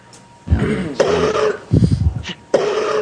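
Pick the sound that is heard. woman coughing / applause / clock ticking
woman coughing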